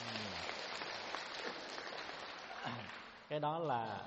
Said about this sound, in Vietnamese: Rồi cho anh một tràng pháo tay.